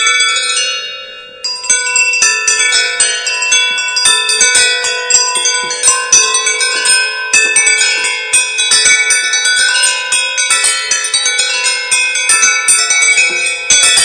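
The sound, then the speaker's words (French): Delicate, high metallic chimes ring continuously, the finest knitting needles made tapped together in a quick, overlapping tinkle like a tiny carillon, bright with lingering tones, no voices. “Donc on a quasi un petit carillon. Là, on a quelque chose de très très doux, quoi.”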